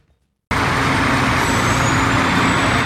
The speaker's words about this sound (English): Military trucks shattered the silence on the streets of Bergamo, the town in the centre of the Italian coronavirus outbreak. Troops have been called in to transport the bodies of those who have died in the town